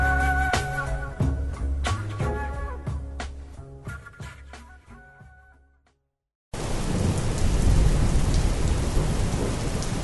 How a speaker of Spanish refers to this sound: Hay algo en la lluvia que nos pone nostálgicos. Basta ponerle atención a su sonido para pensar en eso que te atormenta, recordarte a alguien que dejaste ir.